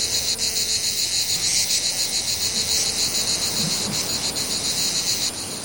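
cicada song

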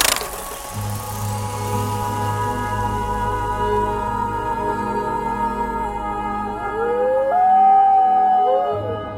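wolves howling

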